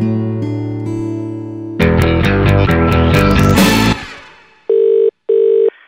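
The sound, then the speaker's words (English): A telephone rings twice in a steady electronic double burst, following a swell of sustained tones and a busier musical passage. No one speaks. “Oh, you always ring at the most inopportune moment.”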